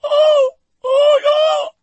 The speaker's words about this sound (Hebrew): סליחה, למה את בוכה? אמרתי משהו פוגע?